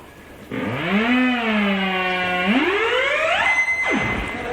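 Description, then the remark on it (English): An electronic instrument imitating a car alarm: a loud, buzzy tone swoops up, holds steady, then glides sharply higher before cutting off, alone with no talking. “Guy who invented it was actually trying to make something for telling when stuff is close together, so you could use one as a car alarm.”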